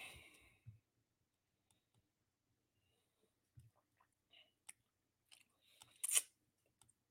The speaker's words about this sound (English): Yeah, sorry. I was chewing for a second. I didn't expect to be on.